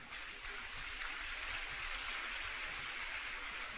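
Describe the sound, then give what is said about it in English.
A crowd claps steadily, a dense, even wash of hand claps that holds at the same fairly loud level for a few seconds with no voices over it. “This is a good place to clap.”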